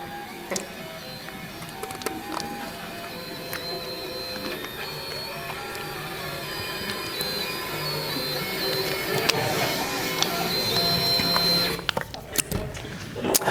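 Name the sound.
3D printer running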